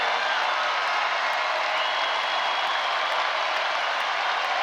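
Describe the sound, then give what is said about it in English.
Sustained audience applause for a colonel singled out in the audience, a dense, steady wash of clapping at an even loudness throughout, with no distinct voices standing out. “And because we get more than enough applause, we should give him the most applause.”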